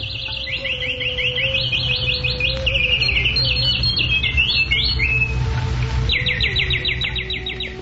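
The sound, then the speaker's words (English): Flocks of birds in a flowering forest chirp and trill at once in rapid overlapping bursts, a steady bright chorus running the whole time over a low ambient hum, with no voices. “On all sides lay the flowering forest, echoing with flocks of birds and swarms of bees, and beautified by its lakes crowded with swans, Karandava ducks, and bowers of lotuses.”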